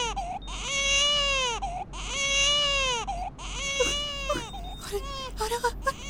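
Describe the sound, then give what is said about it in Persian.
A baby wails loudly in long, rising-and-falling cries, three drawn-out sobs followed by shorter, choppier whimpering bursts, with no other voices. “این بچه الان گیجه، هی میگه پس من چی؟ آخه پس من چی؟ گوش کنید، گوش کنید، گوش کنید.”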